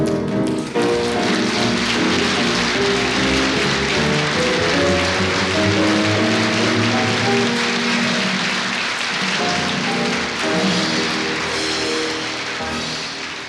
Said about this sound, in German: Ja, das Publikum applaudiert.